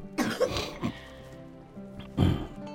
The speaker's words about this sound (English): This cough is peanuts. Bronchitis, prostate, your lungs, they're just peanuts for the Lord.